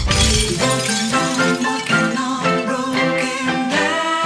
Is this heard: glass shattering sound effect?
yes